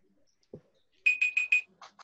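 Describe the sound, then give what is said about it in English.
A digital timer alarm beeps four times in quick, even succession with a bright electronic tone, marking the end of a timer, followed by a couple of softer trailing blips; clear, with no talking. “All right, that's the end of the timer, as you can hear.”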